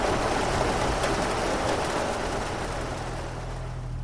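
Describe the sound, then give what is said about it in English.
Heavy rain pours down in a dense, steady hiss with no talking, holding constant before easing slightly toward the end. “We leaned against a tree, kissing, before the rain started falling harder, and we went inside.”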